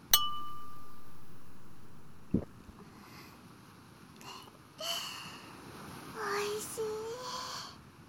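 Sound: glasses clinking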